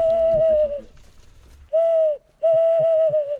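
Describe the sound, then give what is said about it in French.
A professional bird imitator imitates a tawny owl with three loud hoots: a long drawn-out note, a short one after a pause, then a final long, wavering hoot. “Voilà, ça c'est la hulotte.”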